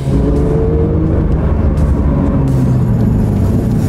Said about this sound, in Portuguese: Ele tem também uma maneira de você trocar aqui e deixar o som do escapamento mais esportivo. Olha só.